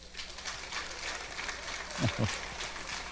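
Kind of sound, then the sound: crowd, audience applause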